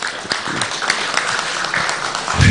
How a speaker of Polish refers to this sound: Jeszcze raz duże brawa, dziękujemy bardzo panie naczelniku.